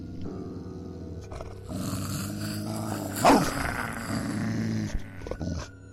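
A large 52-kilo Alaskan Malamute dog growls low and continuously in an archive, rising into a sharper snarl midway before settling back into a steady rumbling growl. No voices are heard.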